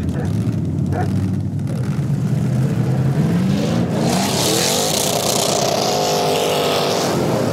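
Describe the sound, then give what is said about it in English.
Race car engines roar loudly and steadily, their pitch climbing as they accelerate hard, with a dense wash of motor and tire noise throughout and no other sounds standing out; 3,000-pound junker cars racing around an icy oval track at about 80 miles an hour as the green flag drops. “takes an early lead around turn one, and on the inside, turn four. And he's out of the corner first.”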